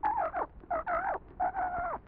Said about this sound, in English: He brought some funny-looking kind of a bird. What is it? What is it? What kind of a bird is that?